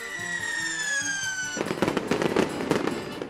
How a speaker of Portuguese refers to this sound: E por falar em fogos de artifício, você imagina a química por trás das cores dessa explosão de brilho?